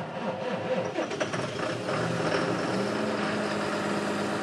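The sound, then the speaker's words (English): A huge farm tractor's engine rumbles on a family farm, its deep, steady drone rising and wavering briefly at first before settling into a constant, loud idle with no voices. “He had to build a shed the size of a warehouse for his machines, like this monster tractor.”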